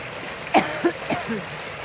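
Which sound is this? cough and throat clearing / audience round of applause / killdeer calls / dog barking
cough and throat clearing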